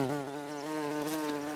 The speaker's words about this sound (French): Les bourdons, ces grosses abeilles velues, sonores, effrayantes mais pacifiques et que nous connaissons tous, sont d'abord solitaires.